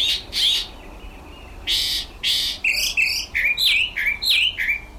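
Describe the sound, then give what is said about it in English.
A mockingbird (cenzontle) sings on its own in the morning, perched just outside a window in the high desert mountains of Mexico, opening with a few harsh, raspy bursts before switching to a quick run of bright, high-pitched chirps and whistled notes in varied, repeating phrases. “Every morning, a mockingbird would perch just outside his window and sing this song.”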